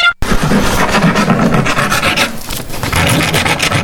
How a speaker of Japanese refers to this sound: じゃあどうぞ、やすり、紙やすりとかですね、棒やすりとかあります、はい。自由に削っていただいて。 はい。 はい、もう好きに。どうぞ、体験なさってください。